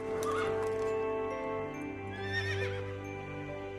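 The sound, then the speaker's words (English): A horse ridden by a man outside a castle, on a snow-covered lawn, whinnies with a wavering, high-pitched neigh that rises and falls, heard over a steady background of sustained musical tones, with faint hoof clops. “A butler carries a tray with tiny glasses to a man on a horse.”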